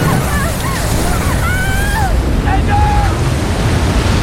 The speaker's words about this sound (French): Le docteur Simon Boxall, notamment, du Centre national d'océanographie du Royaume-Uni, a ainsi pu détecter et mesurer des vagues scélérates. Elles font parfois jusqu'à 30 mètres de haut.